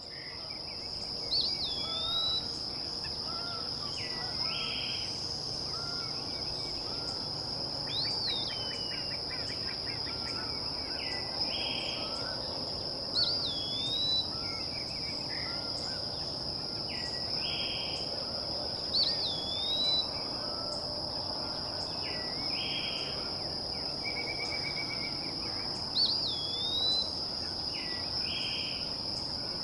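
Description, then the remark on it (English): An Eastern Wood Peewee, a small forest bird and common summer resident, sings slurred, rising-and-falling whistles, repeated every few seconds over a steady, high-pitched drone of insects. “This week, it's the Eastern Wood Peewee.”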